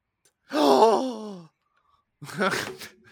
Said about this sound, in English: I just gasped and choked on my own saliva.